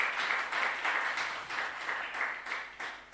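An audience applauds steadily as a fourth-year student of the Debrecen Reformed Theology is introduced, a dense wash of many hands clapping with faint rhythmic pulses, moderately loud and continuous throughout with no voices over it.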